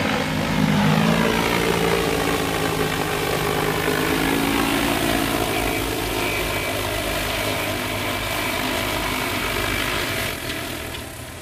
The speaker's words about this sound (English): And so right now you can see that the drone has emptied its tank. So it will automatically land.